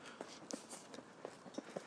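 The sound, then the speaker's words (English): Quiet, uneven footsteps crunch along outdoors as a person walks past a group of cows, about half a dozen soft steps over a faint background hiss, with no talking. “Okay, I'm walking past the cows.”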